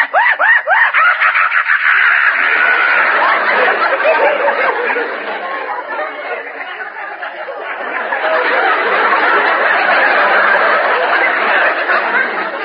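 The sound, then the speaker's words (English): A voice imitates a hyena with a sustained, frantic stream of cackling, snickering screeches, loud, with a brief dip in intensity midway before surging again. “The maniacal screech of the hyena.”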